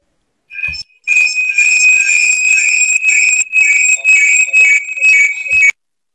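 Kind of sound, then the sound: household object, alarm clock ringing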